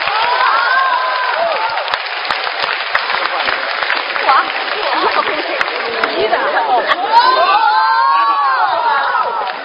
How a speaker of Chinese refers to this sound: 接下来请您欣赏群口相声《酒令》， 表演者郭德纲、于谦、高峰， 掌声有请。